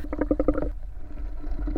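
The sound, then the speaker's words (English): Bubbles blown through a straw into a cup, a rapid string of bubbly, gurgling pops at first, then looser, lower burbles continuing to the end. “Bubbles through a straw into a cup.”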